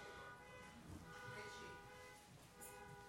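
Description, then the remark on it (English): A car horn blares steadily, a sustained harmonic tone holding for several seconds, with faint background rumble beneath it. “Somebody's trying to get our attention.”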